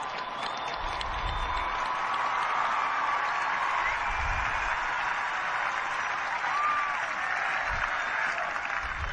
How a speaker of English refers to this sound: Que nos convocó hoy aquí, le enviamos un saludo y un fuerte aplauso. And a great round of applause.